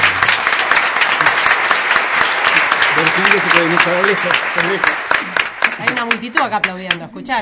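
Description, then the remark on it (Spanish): Loud, sustained audience applause with dense, rapid clapping throughout, joined by cheering voices and shouts that rise over the claps midway and toward the end. “Aplaudiendo, escucharon, ¿no?”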